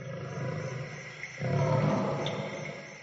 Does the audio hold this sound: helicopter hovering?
no